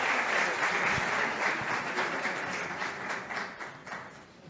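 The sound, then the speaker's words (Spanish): A crowd at a recognition ceremony applauds a representation of the Patronato Nacional de Ciegos, with dense, steady clapping that holds strong throughout, then thins slightly toward the end, with a few sharper individual claps standing out. “Aplauso.”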